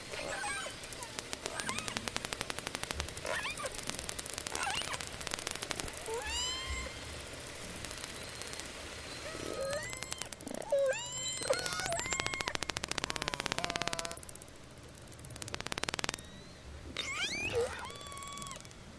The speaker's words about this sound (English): So that was orcas communicating with each other.